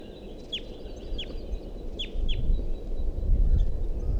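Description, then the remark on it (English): Young Type 2 crossbills' begging calls from a nest tree: four short, high, downward-sliding chirps at uneven intervals, fairly faint over a steady low rumbling background. “And there continues to be a begging call sound from the nest tree, which I thought there was a nest in before.”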